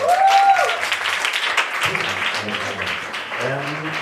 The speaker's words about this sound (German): Bitte einen großen Applaus für unseren ersten Poeten.